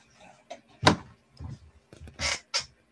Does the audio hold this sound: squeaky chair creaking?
yes